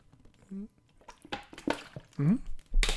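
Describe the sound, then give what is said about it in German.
Sipping and gulping of water from a glass, with a few small wet swallows, a soft clink of the glass, and brief breathy mouth noises. “Ich habe diesmal tatsächlich keinen Tee zubereitet, sondern ich habe diesmal nur ein schönes Wasser. Aber das trinken wir trotzdem.”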